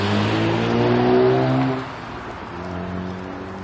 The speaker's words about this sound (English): Cars.